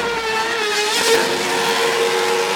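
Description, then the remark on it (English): A Red Bull Racing Formula One car driven by Sergio Perez on the streets of Dallas, Texas, screams at high revs, a loud, steady, piercing whine with a brief surge around the middle, with no voices. “And talk about a joyride, Red Bull Racing Sergio Perez took an F1 car to the streets of Dallas.”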